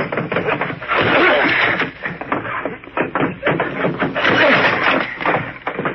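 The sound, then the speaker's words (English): An old wooden door on the land side of a boathouse is forced open by people hitting it together, a dense run of heavy thuds, cracks and splintering crashes, loud, churning steadily for several seconds without a pause. “We'll probably have to force that old door.”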